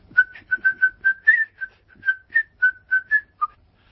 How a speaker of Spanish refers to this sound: ¿cómo le voy a poner de título a este programa que ya por el silbo se sabe hacia qué tierras va?